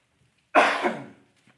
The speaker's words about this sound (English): I'm sorry about this cough. It started weeks ago and it has not wanted to go away.